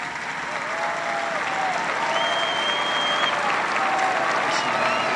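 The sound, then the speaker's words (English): Sustained applause from a large youth audience after an address by the Pope, a dense steady roar of clapping at even loudness throughout, with faint whistles and cheers rising above it. “Judging by the applause, it was a challenge the youth appeared to accept willingly.”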